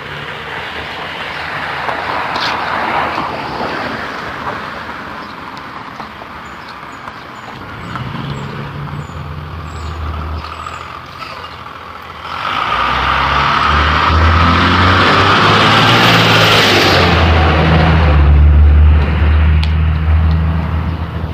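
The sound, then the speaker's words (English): A school bus passes by, its low engine rumble swelling loudly partway through along with a broad hissing rush, then holding strong to the end; no one speaks. “School bus.”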